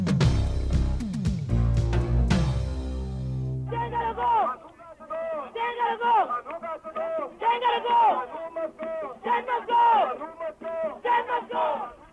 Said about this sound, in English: Police firing tear gas earlier today to try to disperse a crowd of protesters outside the presidential secretariat in Georgetown, Guyana.